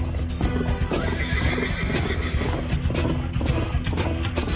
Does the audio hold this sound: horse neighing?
yes